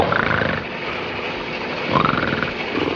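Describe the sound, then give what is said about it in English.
Dino, a cartoon dinosaur, snores loudly in two long, rasping, roar-like breaths, each ending in a rising whistle, over a steady noisy rumble with no talking. “Now Dino has to start snoring. What a racket.”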